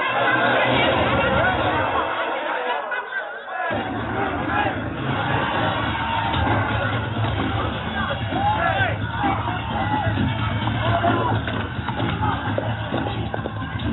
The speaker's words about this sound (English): Even though all the anxious depositors who asked for their money before closing time were given it, the crowd became restless. A squad of police were sent in to control them.